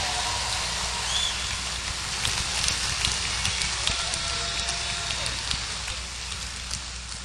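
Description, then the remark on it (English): Sustained audience applause for the musical director and arranger, a dense crackling wash of many hands clapping at once that holds steady and fairly loud for the whole stretch, with possible faint cheers mixed in. “Let's hear a nice round of applause for Robbie Robinson, our musical director and arranger.”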